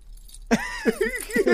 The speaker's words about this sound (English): Are you wearing a collar? No, I just. It's my chain. You sound like you're wearing a collar. Do it again.